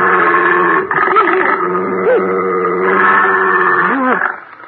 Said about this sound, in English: what was that? That is but Señor Satan, amigo. Señor Satan? What kind of a name is that for an elephant? Elephant, amigo. No. She's what you call a hound of blood.